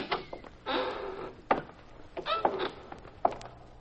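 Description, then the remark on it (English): A warehouse side door is pushed open with a scraping, creaking drag, followed by a few sharp knocks and rattles, with no voices. “The side door is open.”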